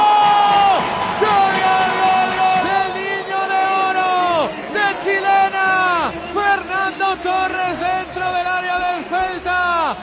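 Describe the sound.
A packed crowd at the Calderón football stadium roars after a goal by Torres, thousands of voices yelling together loudly and continuously, settling into rhythmic, repeated chants of "Torres" toward the end.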